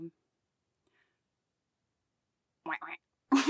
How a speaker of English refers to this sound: Terrible sounding duck.